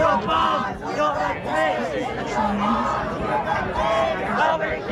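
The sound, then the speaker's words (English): A large crowd of students chants and shouts together at the University of Michigan's commencement ceremony while waving Palestinian flags, loud, in a dense continuous swell with overlapping calls rising and falling throughout. “At the University of Michigan's commencement ceremony today, students chanted and waved Palestinian flags in solidarity with Gaza.”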